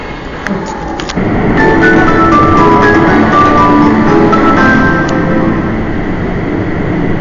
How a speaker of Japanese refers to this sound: まもなく2番線に区間急行中之島行きが7両で到着します。黄色または緑の乗車位置丸印の2番から8番でお待ちください。各駅に止まります。